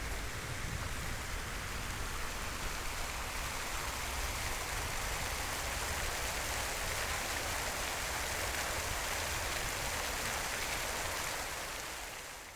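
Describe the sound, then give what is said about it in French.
Steady, dense rain falls continuously in very cold, bad weather at Orly airport in France, with a broad hissing wash and a low rumble underneath, holding an even loudness before easing slightly at the very end. No voices are present. “Le temps était très mauvais, il faisait très froid, il y avait beaucoup de pluie.”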